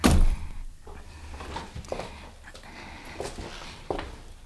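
A heavy front door is unlocked with a large square key and thunks open at the start, followed by a few scattered clicks and light knocks, with a faint rumbling background and no talking.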